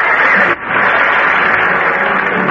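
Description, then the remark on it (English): A crowd applauds a horse named Duke after he rises on his hind legs to music, in a steady, dense wash of clapping that holds loud throughout, with one brief dip near the start before it swells again. No one speaks over it. “Duke's the one that deserves the applause.”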